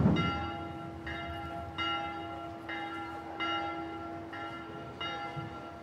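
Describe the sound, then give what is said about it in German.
A small church bell rings steadily, probably at noon, with about seven evenly spaced strikes whose bright overtones linger and overlap, over faint outdoor ambience with no talking. “Jetzt hat die Kirchenglocke, da eine kleine war das, geläutet.”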